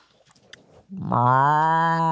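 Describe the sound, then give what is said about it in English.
A person gives a single long, loud imitation of a cow's moo, a sustained low droning tone that starts abruptly after a moment of faint rustling and holds steady to the end. “You do it. You do a moo.”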